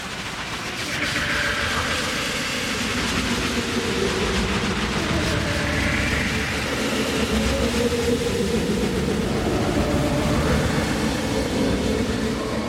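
A train departs, rumbling steadily, a continuous broad roar of wheels and machinery with shifting tonal hum, building slightly at the start and holding a constant loudness throughout.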